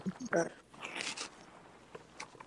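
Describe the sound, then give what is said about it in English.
A zipper is pulled in one short, raspy stroke, followed by faint rustling and handling noises of wires, with a brief murmur of a voice just before. “The zipper's got to zip up this way.”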